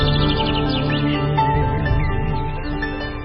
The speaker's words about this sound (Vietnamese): Con đường nhiều sen búp có chim oanh trên cành lặng nghe chim nói pháp lời chim vòng bay xa.